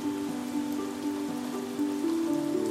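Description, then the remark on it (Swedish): Heavy downpour pours steadily onto a garden lawn, a dense hiss of splashing drops with no pauses, while soft sustained low tones hold and shift quietly underneath. “Svalorna gömde sig i sina bon under takåsarna och koltrasten tog skydd under en buske för att inte vingarna skulle bli alldeles för tunga i ösregnet.”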